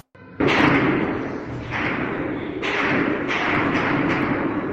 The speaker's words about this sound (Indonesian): Dengar suara baku tembak dan dentuman bom terdengar di sekitar ibu kota Khartoum hari Minggu ketika pasukan militer dan kelompok paramiliter yang kuat bertempur memperebutkan kekuasaan.